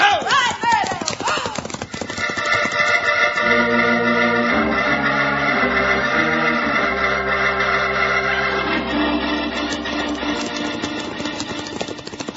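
horses galloping

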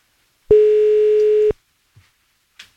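phone ringing tone

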